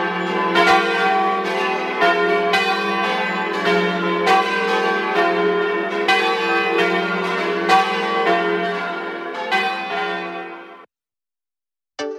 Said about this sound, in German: Die fünf Glocken der Kirche wurden in Trient gegossen.